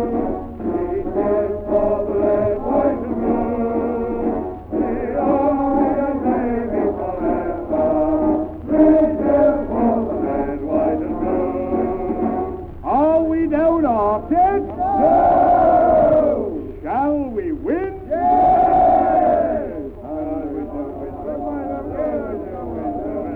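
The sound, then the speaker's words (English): A crowd of soldiers raises loud, overlapping cheers, a great cheer for the red, white and blue, with many male voices shouting together in long rising and falling bursts, swelling strongest near the end. “Great cheer for the red, white and blue.”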